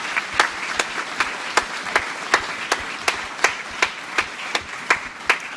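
An audience at a church service applauds to thank the team working behind the cameras, a dense wash of clapping punctuated by steady, rhythmic louder claps roughly every half second, as if the crowd claps together in time. No one speaks.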